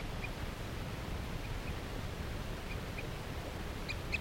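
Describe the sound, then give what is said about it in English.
Faint, short calls from a wild bird perched in a tree along a net repeat every second or so over a steady hiss of background noise, bunching into a quick cluster near the end. No one speaks. “They're calling the tooth of a wild bird.”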